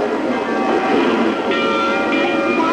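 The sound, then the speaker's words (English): Many church bells ring at once all over Warsaw, Poland, announcing that the papal plane has touched down; their tones blend into a steady, dense, reverberant wash, with no voices. “Church bells all over Warsaw announced the papal plane had once again, after 4 years, touched down on Polish soil.”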